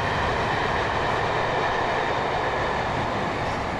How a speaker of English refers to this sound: I think that's that was the same one that went that way, wasn't it? It was definitely a train. I don't know. I thought it was a carriage fewer. Only three with lights on that one. I wasn't really counting, but it made the same noise